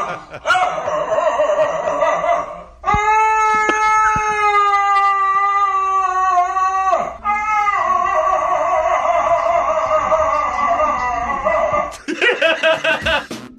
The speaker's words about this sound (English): Yeah, they said it sounds like an old man trapped inside a dog's body.